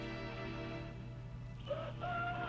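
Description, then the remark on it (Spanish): A rooster crows in the distance on a sunny morning, its drawn-out call rising and holding near the end, faint over a steady low background hum with no one speaking. “El lejano canto de un gallo saca de su sueño a la atractiva muchacha, que permanece quieta en el blando lecho.”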